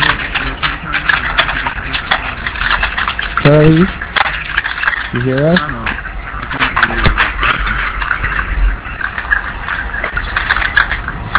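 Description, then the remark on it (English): Rapid keyboard typing clatters steadily through a microphone, a dense stream of clicks running the whole time, while a voice briefly calls out over it. “If only we could get him to mute his mic when he types.”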